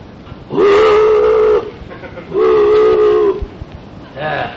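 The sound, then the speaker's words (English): A deep, mournful boat whistle sounds through dense fog in long, steady blasts: two full calls about a second each, then a third cut short, loud and resonant over a low background hiss. “Somewhere out in that pea soup, a mournful boat whistle sounded.”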